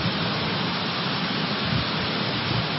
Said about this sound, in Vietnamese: Thôi các vị mưa đến thế là được rồi, đi nơi khác đi. Ở đây thầy đang giảng, đi nơi khác chơi.